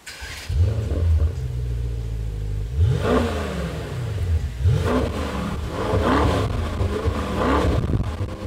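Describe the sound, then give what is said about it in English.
A rear-wheel-drive, 590-horsepower Mercedes-AMG GT C revs hard and accelerates in thick monsoon rain, its deep engine rumble rising in pitch through several gear changes with repeated surges of roaring, loud and continuous throughout. “in a rear-wheel-driven, 590-horsepower Mercedes-AMG GTC in thick monsoon rain.”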